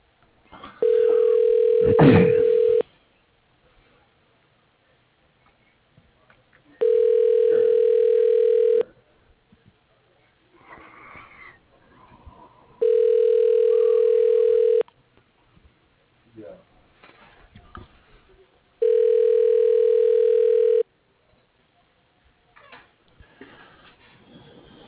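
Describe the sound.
Four long, steady, low-pitched telephone tones, each about two seconds, repeat at even intervals on the phone line of Brown Equipment Manufacturing, where callers may dial a party's extension. Faint murmuring voices fill the quiet gaps between them.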